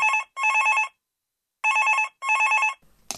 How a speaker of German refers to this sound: Das Telefon klingelt und die Polizei meldet sich.